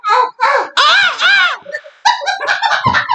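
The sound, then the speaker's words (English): A person's voice imitates a monkey screaming after being slapped in the face, with loud, shrill, wavering shrieks in quick bursts, a brief pause, then a rapid run of harsher chattering screeches. “That monkey screamed.”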